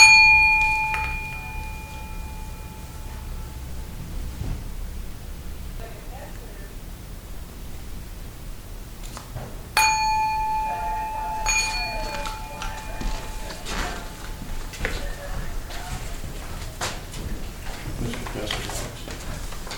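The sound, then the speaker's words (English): A singing bowl is struck twice, about ten seconds apart, to close a centering prayer. Each strike rings out with a clear, shimmering tone that slowly fades over a soft, hushed background. “And then I'll ring the bell, the bowl bell, after we're done.”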